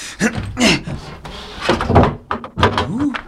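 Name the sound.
door being opened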